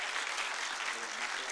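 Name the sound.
audience applause welcoming speaker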